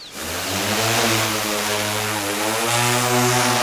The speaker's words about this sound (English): guides a 40-pound drone 200 feet above the forest floor as it drops little balls filled with a chemical that ignites about 30 seconds after landing.